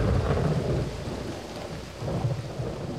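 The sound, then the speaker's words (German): A thunderstorm with heavy rain pouring steadily in Andalusia, Spain, in mid-December 1995, ending a drought of more than four years, deep rumbles of thunder rolling through the low end and swelling again near the close, loud and enveloping with no voices. “Innerhalb weniger Wochen ist in Andalusien die anderthalbfache Menge des Regens gefallen, der in einem durchschnittlichen Jahr niedergeht.”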